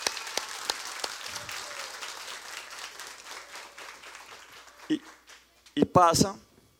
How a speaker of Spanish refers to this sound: Y por eso para ella yo quiero que se levante un momento, porque le queremos dar el aplauso más fuerte de todos.